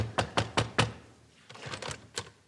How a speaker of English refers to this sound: Stop knocking so loud.